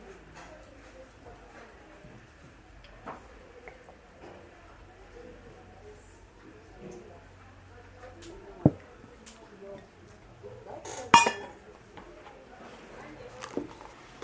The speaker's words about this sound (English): Let me just have a sip of water.